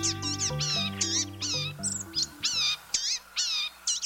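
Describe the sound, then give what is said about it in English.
A blue-gray gnatcatcher gives a rapid series of thin, nasal, mewing calls, about ten in four seconds, while low sustained musical tones fade out underneath during the first few seconds. “Blue-gray gnatcatchers are little birds that can be hard to spot as they forage busily amid dense leaves overhead.”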